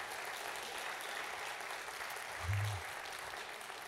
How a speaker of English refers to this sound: Why don't we clap and give God the best praise we can right now?